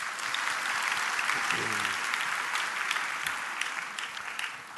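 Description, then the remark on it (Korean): A crowd claps steadily throughout, a dense wash of hand claps that stays loud and even before thinning slightly toward the end, with a brief voice heard beneath it. “박수 한번 합시다.”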